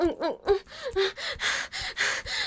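Heavy, rapid breathing, a string of about eight loud panting breaths with sharp voiced gasps at the start, steady and rhythmic with no talking.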